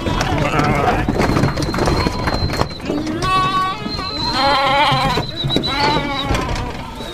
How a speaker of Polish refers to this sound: Między innymi byliśmy świadkami, może Państwo pamiętają, jak wpuszczano tutaj stado owiec, które mają być naturalnymi kosiarkami pomagającymi żółwiom błotnym.